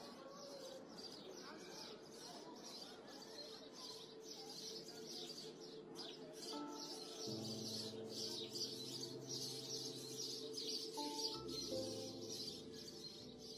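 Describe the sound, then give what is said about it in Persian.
A dense chorus of sparrows chirping continuously, many quick overlapping tweets at a steady moderate level, with a low sustained hum joining underneath partway through. “صبح آمد و چهره زمین اوریان شد، شب در خم و پیچ ناکجا پنهان شد، خمیازه ممتد خیابان محو از موسیقی جیک جیک گنجشکان شد.”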